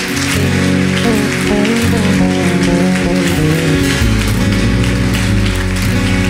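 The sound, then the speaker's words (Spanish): An audience, asked to stand, applauds for God in a dense, steady roar of clapping that holds at full strength for several seconds, with sustained musical tones droning underneath. “Pónganse de pie, denle un aplauso fuerte a Dios.”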